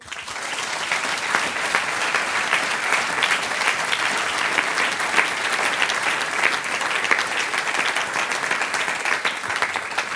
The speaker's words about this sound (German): Applaus ist das Brot des Künstlers.